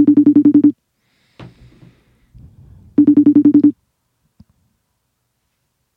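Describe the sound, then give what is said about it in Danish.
A FaceTime video call ringing tone as a woman is being called, sounding in short bursts of rapid pulses, repeating about every three seconds, clear, with faint rustling and clicks in the pauses between rings. “Ja, og jeg håber, hun tager telefonen.”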